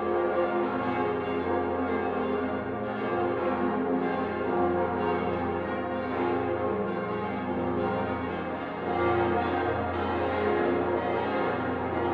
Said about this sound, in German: Als Bassglocke fundierte die Cantabona den fünften Teil mit Kombinationen vor allem in F-Moll, was einige der Zuhörer mit am meisten beeindruckte.